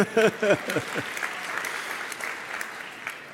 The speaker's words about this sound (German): Wenn ihr mal kurz alle an die Decke guckt, solche Leuchten machen wir. Ja, genau. Gerne einen Applaus dafür.